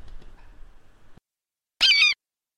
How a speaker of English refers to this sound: How did a bird get in here? I have no idea. Yeah, it's strange. Oh no, it's trapped in the fan. Oh no.